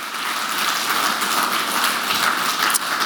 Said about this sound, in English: So can we give God a round of applause for what's happened in the last kind of few weeks?